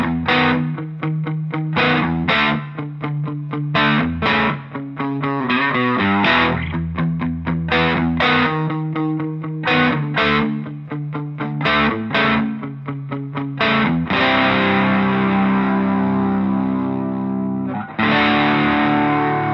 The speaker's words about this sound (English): They're hard panned. I think some Gibson sounding guitar on the left. Definitely hear a Strat on the right. I like that a lot, actually.